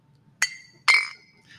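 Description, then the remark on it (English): Topo Chico glass bottles clink together in a cheers toast: two sharp, bright taps, the second louder with a longer ringing tail, then a faint third touch at the end. No talking. “Topo Chico for the win.”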